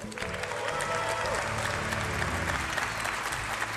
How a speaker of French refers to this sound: Merci pour ce tonnerre d'applaudissements.